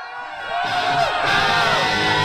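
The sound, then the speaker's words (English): A large crowd screams and cheers on call during the Glenn Jones radio program, the noise swelling after a brief moment and holding loud and sustained, with scattered whoops and shouts mixed into the roar. “Let me hear you scream!”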